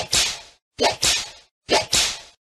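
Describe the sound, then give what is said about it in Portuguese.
Three loud whip cracks at a steady pace, each a quick swish snapping into a sharp crack, with brief silences between and no voices. “É preciso estalar o chicote no lombo desse animal teimoso chamado homem.”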